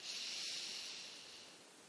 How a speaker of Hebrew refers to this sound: אם ניקח מספר נשימות עמוקות, 2-3, אל תתביישו.